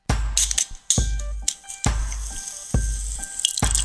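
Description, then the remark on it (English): Beer, Summer Solstice by Bob's of New Hampshire, pours into a glass, arriving in four gurgling, splashy bursts with a bright glassy ring, each surge fading before the next. No one speaks. “Maybe you should stop peeing in the garage. I'll pour the first one for you.”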